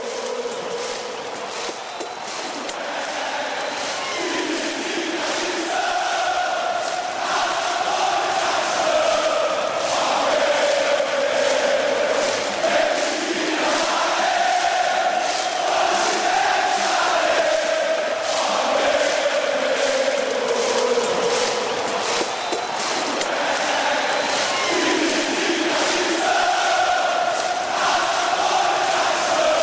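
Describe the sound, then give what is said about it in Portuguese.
A huge crowd of Flamengo football fans sings a chant about Ayrton Senna together, a loud, continuous wall of massed voices carrying a rising and falling melody over a steady roar for the whole stretch. “Meu filho da bola foi pra música que eu vi da torcida do Flamengo.”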